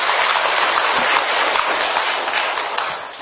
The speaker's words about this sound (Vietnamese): Rồi cho tràng pháo tay coi.